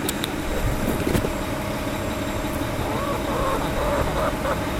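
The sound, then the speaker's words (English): A garbage truck rumbles steadily outside, its low engine drone and road noise filling the background, with a faint brake squeal or whine rising near the end. “Oh, you don't like the sound of that garbage truck there.”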